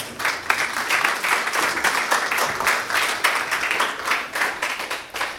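A church audience applauds as someone goes back to their seat: many hands clapping in a dense, steady patter that stays fairly loud throughout, with no voices standing out above it.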